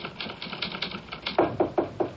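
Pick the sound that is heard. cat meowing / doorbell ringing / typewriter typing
typewriter typing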